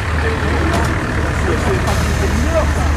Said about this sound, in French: Oh, voilà bien le bus.